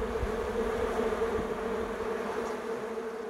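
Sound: bees buzzing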